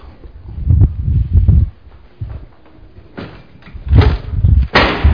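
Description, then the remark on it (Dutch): A few heavy footsteps thud, then a door is pushed shut with a sharp bang and a couple of rattling knocks as it settles. “Ik gooi die deur even dicht.”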